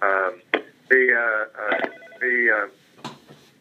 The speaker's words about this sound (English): If you could please put your phone on mute, we'd appreciate it. Eliminate that ringing noise in the background, we'd appreciate that.